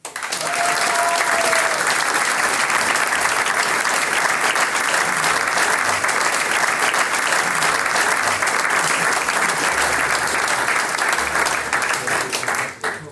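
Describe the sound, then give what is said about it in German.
Sustained audience applause for the organiser and team of a radio-broadcast singers' and musicians' gathering at the Bradlwirtin in Heilbronn, a dense, steady wash of many hands clapping at a loud, even level for over twelve seconds before tapering off at the end. “Großartige Veranstaltung heute, einen großen Applaus für dich und dein Team.”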